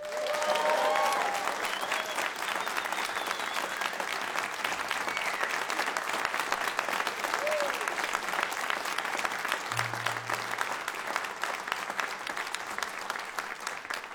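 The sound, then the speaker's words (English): A large audience at a concert applauds steadily and loudly for the whole stretch, welcoming a jazz orchestra and its director, a dense wash of clapping with no voices standing out and no letup. “And I think they deserve a massive round of applause.”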